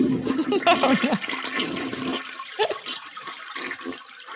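A toilet flushes in a bathroom, starting with a loud rushing gurgle that gradually thins into a softer hiss and trickle as the tank refills.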